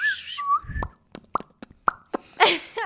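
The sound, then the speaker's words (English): A person in an apartment whistles a couple of short, bright notes to communicate with a green pet parrot, followed by a series of sharp mouth pops and clicks and a brief breathy burst at the end; no talking. “Yeah, like he communicates by like whistling to her.”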